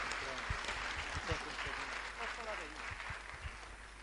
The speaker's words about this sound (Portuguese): Palmas para Jesus.